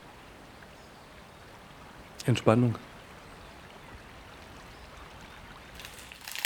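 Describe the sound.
Soft, steady murmur of the cool, clear water of the Murg river flowing slowly, running continuously in the background, quiet and even, with a single short spoken word briefly rising above it partway through.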